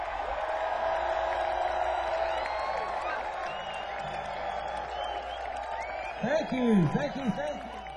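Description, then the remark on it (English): A large crowd cheers and applauds a musician in a steady, dense wash of noise, with a voice rising loudly over it near the end. “Give it up for Mr.”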